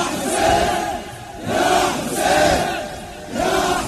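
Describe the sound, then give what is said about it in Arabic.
A large crowd of mourners chants loudly in unison in response to a leader's call, voices rising in four strong rhythmic surges with brief dips between them, a dense wall of shouting with no single voice standing out. “اريد اسمع صوت مواليين بمعنى الكلمه.”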